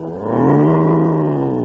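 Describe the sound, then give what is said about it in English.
A voice imitates a tiger's roar: one loud, sustained growling roar that swells in over a fraction of a second and holds steady, with no speech around it. “I'm a roaring tiger.”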